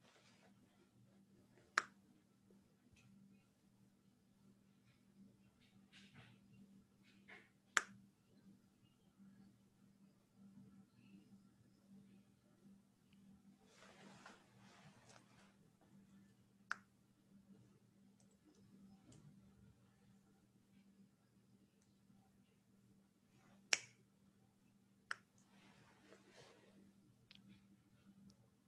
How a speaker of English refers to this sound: And if you do, if you mess up, if you make a mistake, I want you to snap your fingers. And I want you to count how many times you snap your fingers and you mess up.